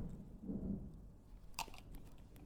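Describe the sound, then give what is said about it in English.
A low rumble of thunder from a thunderstorm rolls faintly in the background, followed by a brief crackling burst, with no one speaking. “Did you guys just hear that? That was a thunderstorm. It was so noisy.”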